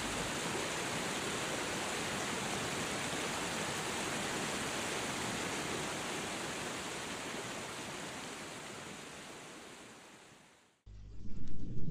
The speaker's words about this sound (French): Surtout lorsque l'on découvre au détour d'un virage une cascade magnifique où l'on aura envie de se baigner. Imaginez une grande cascade, une eau fraîche et le calme reposant de ce havre de paix.